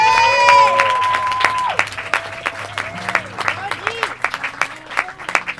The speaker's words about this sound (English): can we have a round of applause for Gordon and everybody else here at the Budgie Dome?